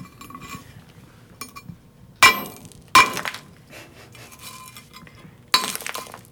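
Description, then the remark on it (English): A scientist wearing safety goggles and a safety mask smashes rock with a geologist's hammer on a heavy piece of iron protecting the floor: three hard, ringing metallic blows stand out, with lighter taps and clinks scattered between them, fairly loud, and no talking. “Now he's got the geologist's hammer. He's got a nice heavy piece of iron so he doesn't mess up the floor.”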